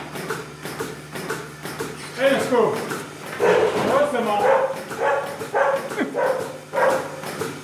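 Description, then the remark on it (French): A farm dog on a farm with 50 cows barks in a series of sharp, repeated bursts, with a steady outdoor background hum and some indistinct voices underneath. “Si je lui dis, il vient aboyer au vache en quelque sorte.”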